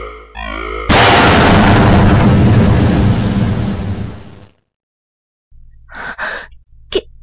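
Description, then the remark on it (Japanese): A research laboratory building explodes: a sudden, loud explosion erupts after a brief rising tone, its broad roaring blast rumbling for several seconds before cutting off, followed by short gasps and faint scattered sounds. “研究所が爆発した。”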